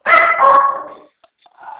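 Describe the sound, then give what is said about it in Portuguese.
A dog barks loudly, one drawn-out bark lasting about a second, followed by a brief pause with faint clicks and then a softer, shorter bark. “Para, cachorro.”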